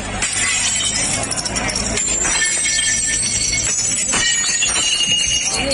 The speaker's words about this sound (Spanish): Así sonaban los platos rotos que han pagado los hosteleros de La Rioja. Se ha protestado contra las medidas que frenan su actividad y por la ausencia de medidas para la hostelería riojana